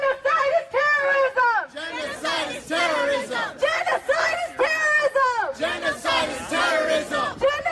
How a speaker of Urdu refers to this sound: مظاہرین نسل کشی من کرو, نسل کشی دہشت گردی ہے اور ہمیں کیا چاہیے, انصاف انصاف کے نعرے لگا رہے تھے. انہوں نے 1.5 سے 2 گھنٹے تک برما سفارت خانے کے اطراف میں مظاہرہ جاری رکھا.